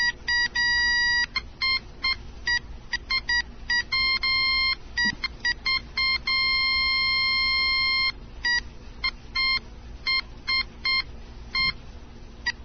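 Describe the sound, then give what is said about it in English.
Electronic level indicator tones beep in rapid, irregular bursts, switching between a few distinct high pitches that show whether it is down to the left or the right as something is brought to level, sometimes steady for a second or two, loud over a low background hum with no talking. “See, when you get used to the tone pitches, you could tell which way you needed to go.”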